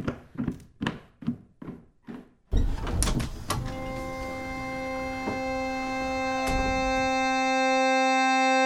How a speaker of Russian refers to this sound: Как только за Витей закрылась дверь, мать озабоченно вздохнула.